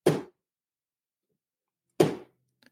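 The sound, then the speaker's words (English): Two heavy, dull thuds about two seconds apart as a Jazzy mobility scooter bumps into vendors' tables of merchandise, each with a short rattling decay, followed by a couple of faint small clicks. “He would knock into every table with his jazzy and everybody's merchandise would shift.”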